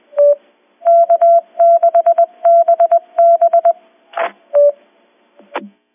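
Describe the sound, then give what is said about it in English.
Loud, steady-pitched Morse code beeps of a repeater identification tap out the call sign K6BB in several quick groups of short and long tones, followed by a couple of brief crackling bursts of static. No one speaks. “On KF6Q Tech Tuesday in the group, and if you knew Morse code, you would know that just typed out K6BB.”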